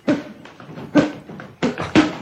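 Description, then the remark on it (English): Four punchy boxing hit sound effects, each a sharp, heavy smack with a low thud. They come in an uneven rhythm, the last two close together, with no talking. “Fun boxing sounds. I just like these.”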